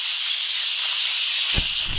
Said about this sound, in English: I think I hear steam escaping.